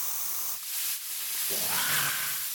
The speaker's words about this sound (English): I tried to think of a spray that was like weed killer, but for corn?